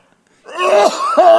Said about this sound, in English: My entire vacation was spent hacking, coughing. Like the Godfather.